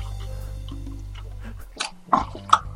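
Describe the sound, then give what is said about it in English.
Wet chewing and mouth noises of a man chewing a tampon in his mouth, in a challenge to eat three tampons in under a minute, come in three or four short squelchy bursts toward the end, over a steady low hum, with no talking. “All right, 1 tampon in his mouth and... Chew, chew, chew. Here I'm chewing.”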